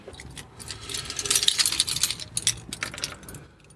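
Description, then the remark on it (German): Metal keys jingle and clink in a bright, irregular cluster of small rattles as someone rummages for the key to a building's stairwell, getting busier midway before settling, with no talking. “Weiß nicht, haben Sie einen Schlüssel? Ich glaube, ich habe einen, ja.”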